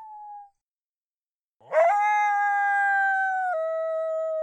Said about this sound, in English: Kiki's lone howls. Another, you know, just sad, lonely little female coyote looking for a companion.